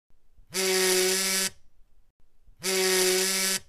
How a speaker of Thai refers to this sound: เสียงโทรศัพท์ปลุกฉันให้ตื่นขึ้น